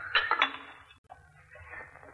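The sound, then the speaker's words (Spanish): Ceramic pieces taken out of a kiln clink and knock together as men pass them along by hand, a few bright chinks early on followed by softer scraping contact, with a low steady rumble underneath. “Los hombres pasan las cerámicas a Ohama.”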